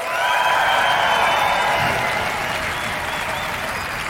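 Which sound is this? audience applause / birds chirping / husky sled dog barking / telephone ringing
audience applause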